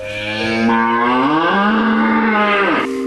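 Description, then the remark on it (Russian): A single long cow moo on a monastery farm, loud, rising in pitch and then dropping off sharply near the end. No one speaks over it. “Здесь, как и в монашеском братстве, дружно живут ослики и телята, коровы и бычки.”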